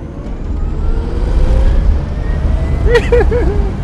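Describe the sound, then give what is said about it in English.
An electric sports car, powered by about 7,000 laptop-type battery cells, speeds up from 0 to 60 in under 4 seconds under a loud, steady roar of road and wind noise, with a faint electric whine climbing in pitch. Near the end, a few quick warbling chirps sound. “The car goes from 0 to 60 in under 4 seconds.”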